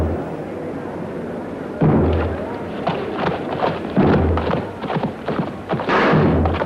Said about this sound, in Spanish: En el primer choque, las armas golpean entre sí sin consecuencias. Los caballos giran y se buscan de nuevo. Ambos quedan en el centro golpeándose mutuamente en los escudos.